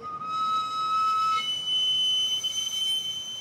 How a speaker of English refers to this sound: The cart he pushes, by the way, is an ingenious contraption. A little wood fire steams the potatoes and powers that piercing whistle.